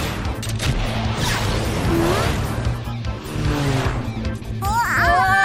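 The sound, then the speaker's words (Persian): A missile launches with a loud, sustained roaring whoosh over dense rumbling action noise, fired at an airplane from a rocket arm, ending in a rising, wavering whistle as it streaks away; muffled voices may be mixed in. “توجه دست موشکی، به اون هواپیما شلیک کن.”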